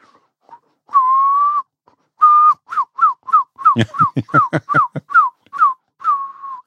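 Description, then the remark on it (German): A person whistles an imitation of a herring gull as heard from far away: a long held note, then a rapid series of short, breathy yelping whistles, some with harsh rasp, ending on another sustained tone. Loud, no talking. “Silbermöwe kannst du pfeifen. Kannst du die mal machen?”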